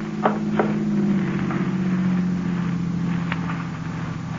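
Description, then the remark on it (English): A car engine rumbles steadily with a low droning hum, holding fairly even in loudness as it rolls by, broken only by a few faint clicks. No one speaks. “Car coming. Better douse these candles.”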